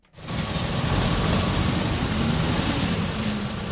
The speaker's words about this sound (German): 18 Uhr, die A5 hinter dem Nordwestkreuz in Richtung Friedberg. Stau. Danach kann man fast die Uhr stellen. Seit Jahren.